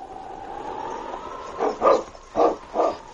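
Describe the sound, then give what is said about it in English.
A sled team of huskies, with a lead dog setting the pace, barks in a quick burst of four or so loud yelps, coming after a steady, faint whistling drone that fills the first half. “the mighty lead dog King set the pace for Sergeant Preston's team of huskies”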